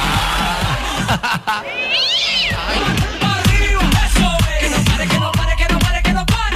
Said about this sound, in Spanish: Oh, miau.